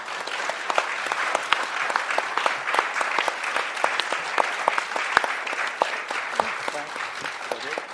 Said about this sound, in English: So that concludes the North Country Respect 21st District Congressional Forum. Y'all can applaud now if you'd like.